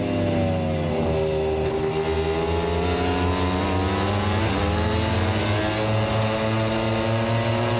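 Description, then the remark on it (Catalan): A Ducati racing motorcycle engine screams at high revs during a race, its pitch rising and shifting through gears as it passes by, loud and continuous with a dense mechanical whine. “Aquesta és la Ducati de Marc Márquez.”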